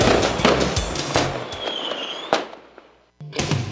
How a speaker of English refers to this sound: get ready for a huge fireworks display right through the summer sky